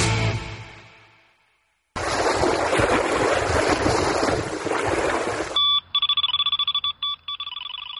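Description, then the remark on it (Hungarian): A carp fishing boilie bite alarm at Lake Balaton, Hungary, sounds rapid bursts of high-pitched electronic beeps, loud and stuttering, following a steady rush of waves and wind over the water. “Ez a Balaton, kedves hallgatóink, és a Bojlis kapás jelző hangja.”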